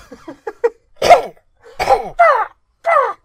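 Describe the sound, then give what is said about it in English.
A voice imitates a velociraptor call: a few quick clicking sounds, then four loud, raspy screeches with wavering pitch that come across as more bird-like than reptilian. “That was more of a bird sound than a raptor sound.”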